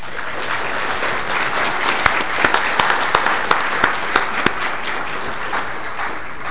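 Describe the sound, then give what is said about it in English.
A room full of people at a conference session applauds a speaker steadily for several seconds, a dense wash of clapping with a few sharper individual claps standing out near the middle. “you should give him a round of applause.”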